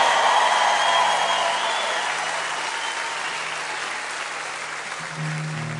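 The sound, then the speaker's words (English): A Grand Ole Opry concert crowd in Nashville applauding steadily, a dense wash of clapping that starts loud and slowly tapers, with a low sustained hum entering near the end. “I tell you what, it's good to see a Grand Ole Opry crowd here in Nashville.”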